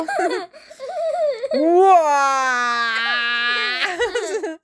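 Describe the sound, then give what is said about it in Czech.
A voice imitates a baby crying loudly: a long, sustained wail with a slowly falling pitch, set between brief bursts of talking-like sounds at the start and end. “Ale zkuste si přeřvat mimino.”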